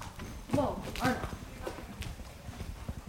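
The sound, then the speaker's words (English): A girl's horse clip-clops at an easy walking pace in Benson, Minnesota: a steady rhythm of clear hoof strikes, with brief vocal sounds rising over them near the start. “After the trauma she's been through, the girl says when she's up on her horse, she feels at peace and free.”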